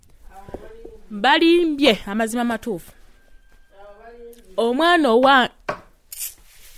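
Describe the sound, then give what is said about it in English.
A woman slams her finger on a hard tabletop to make a point, several sharp taps in an uneven rhythm mixed in with her emphatic, animated speech. The knocks are fairly brief, landing between and beneath her words. “She slammed her finger on the table to make a point.”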